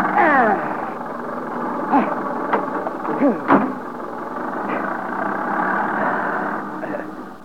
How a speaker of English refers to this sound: There. You get in. I'll crank the engine.